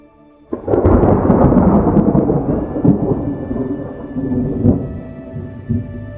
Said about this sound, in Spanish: Un trueno resonó incluso sin relámpago.